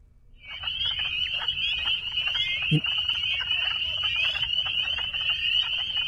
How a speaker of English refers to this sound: The spring peepers. The sound of the spring peeper in the wetlands.